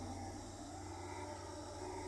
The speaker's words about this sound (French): C'est vrai qu'on pourrait presque faire une horloge des sons dans la forêt, parce que les sons se répartissent en fonction du jour, en fonction de la nuit, en fonction des moments, et on entend là tout à fait dans le fond des singes hurleurs.